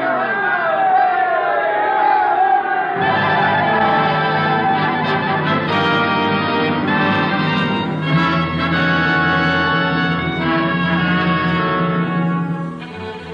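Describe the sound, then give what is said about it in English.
A large crowd on a polo field cheers and shouts loudly and continuously as an airmail plane takes off, many voices overlapping in a dense, sustained roar that fades slightly at the very end. “The plane was airborne, the crowd cheered, the birth of airmail, though amusing, was successfully accomplished.”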